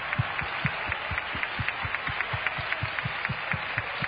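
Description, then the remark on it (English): A crowd claps for Jesus in a steady, fast rhythm of about four beats per second over a dense wash of noise and scattered applause, loud and with no talking. “Would you clap your hands one time?”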